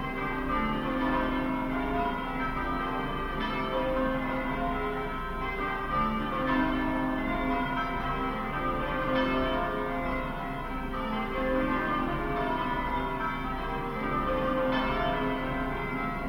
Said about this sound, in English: Ring out, wild bells, to the wild sky, the flying cloud, the frosty light.